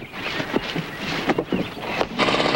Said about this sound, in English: Using a small gas-powered drill, they take a soil sample.